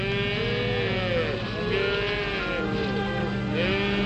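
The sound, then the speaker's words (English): Calves bleat repeatedly in overlapping, wavering calls, several animals crying at once over a steady low rumble. The bleats rise and fall in pitch and stay fairly loud throughout. “What are those calves doing there?”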